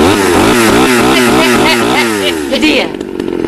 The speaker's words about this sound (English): Don't mess with a mad black woman with a chainsaw. Looks like a McCulloch.